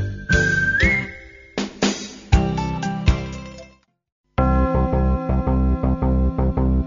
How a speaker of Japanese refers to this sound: この曲はまあ大胆です。和ませ気持ちも弾む生演奏のマンドリンと絶妙のコラボレーション、おなじみの口笛、もちろん生演奏ですよ。